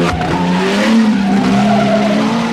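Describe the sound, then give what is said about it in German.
A fast car accelerates hard with a loud, sustained tire squeal, the engine whining over a steady roar of road noise as it speeds off to escape police, intense throughout. “Und mit dem konnten wir die Polizisten dann abhängen.”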